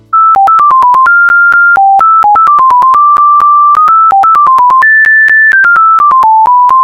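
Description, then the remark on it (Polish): A simple, beepy old-school, near-monophonic phone ringtone, converted from a file from a phone, plays a quick melody of short stepped tones and a few held notes, loud and steady with no voices. “I mamy piękny, oldschoolowy, prawie że monofoniczny dzwonek.”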